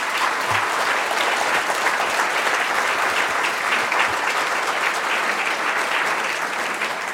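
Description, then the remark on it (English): Sustained applause from an audience, a dense, steady wash of clapping hands that holds at an even loudness for several seconds before easing slightly at the end. “So round of applause before we go to questions.”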